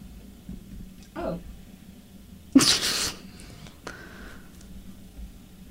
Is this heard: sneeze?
yes